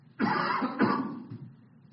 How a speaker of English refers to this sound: By the way, I have allergies, so this cough should not worry you.